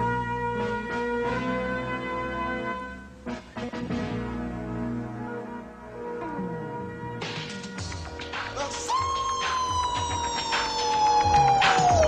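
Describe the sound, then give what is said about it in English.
A loud intro theme of a 1970s TV dance show that aired on Saturday afternoons plays on its own, dense with ringing, bell-like tones, and a long whistling tone that slides slowly downward near the end. “But there was a show that came on later on, Saturday afternoons, that really click with me. Matter of fact, I think we have the intro right here.”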